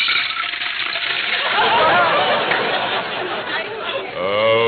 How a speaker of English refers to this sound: Well, there's water in the pitcher. Just pour it into the bowl.